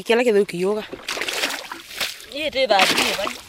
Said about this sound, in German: Die junge Frau schöpft Wasser aus dem Loch, bis ihre Kanister voll sind.